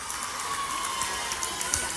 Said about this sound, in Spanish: Por favor, muy fuerte aplauso, por favor.